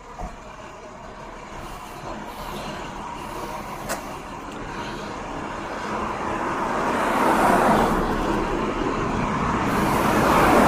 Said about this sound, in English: There's a work truck with a big diesel next to me, so that's the sound you might hear.